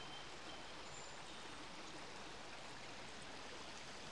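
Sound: shallow river water flowing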